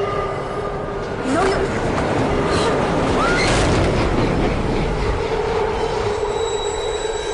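A train rolls in with a loud, steady rumble, while thin metallic wheel squeals ring out over the roar for several seconds.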